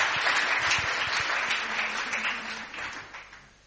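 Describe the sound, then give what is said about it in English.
A crowd applauds a tenth-generation preacher with dense, steady clapping that holds strong for a few seconds and then gradually thins and fades toward the end, with no voices breaking through. “So let's give the man a hand.”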